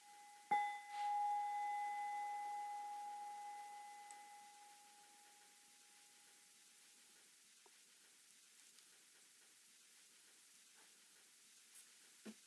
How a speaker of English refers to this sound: nearby, and distant sounds, bells.